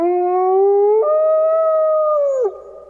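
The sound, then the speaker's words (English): A timber wolf, also known as a gray wolf, howls: one long, loud, mournful note that rises slowly, shifts pitch partway through, then slides down near the end. It is clear, with no voices. “The timber wolf, also known as the gray wolf, is the largest wild member of the dog family.”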